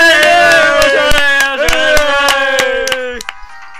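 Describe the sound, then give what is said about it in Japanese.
Two people clap in an uneven, sparse patter over a loud sustained tone with bright harmonics; the tone cuts off near the end, leaving a few last claps. “なんていうか、 二人で拍手なんて寂しいですね。”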